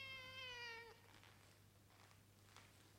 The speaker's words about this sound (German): In der Werkstatt lief gerade keine Maschine, es war so still, dass man deutlich ein Miauen hörte.